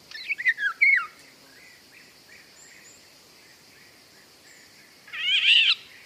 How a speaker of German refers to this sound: Wenn man da den Pirol gehört und auch das, den quietschenden Sound. Und der Pirol ist für mich eher so ein Auwald, so ein sehr nasser Erlenbruchwald